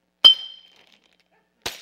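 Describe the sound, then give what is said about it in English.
A glass bottle shatters with a sharp crack and a bright ringing tone that fades, then a second crunching burst of breaking glass follows moments later, loud, with no voices. “there comes times when the things that we have made”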